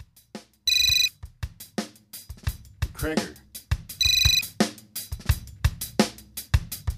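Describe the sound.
A phone ringtone sounds twice in short, loud electronic bursts about three seconds apart, with a voice talking and busy background sounds in between.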